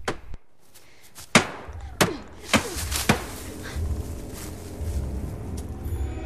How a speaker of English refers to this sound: After their impromptu fencing battle, Jared picks up a stick and starts hitting the car with it.